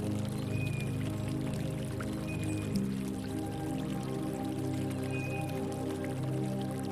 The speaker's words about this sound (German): Noch einen Moment wird uns das feine Plätschern begleiten.